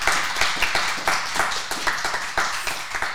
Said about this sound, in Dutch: Bedankt voor dat applaus.